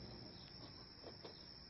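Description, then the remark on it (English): Quiet outdoor night ambience at a cemetery, with a steady, high-pitched drone of crickets and a few soft, brief rustles underneath; no one speaks. “They arrive at the cemetery.”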